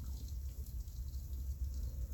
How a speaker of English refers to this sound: Perfect timing. Look at this rain.